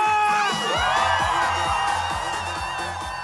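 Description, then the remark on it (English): A young crowd cheers and whoops loudly over a thumping electronic dance beat with steady kick drums during the evening's last performance by a DJ in Buddhist robes, the shouting energetic and sustained throughout. “For the last performance of the evening, a DJ takes the stage in Buddhist robes and with headphones on his shaven head. He whips the young crowd into a frenzy.”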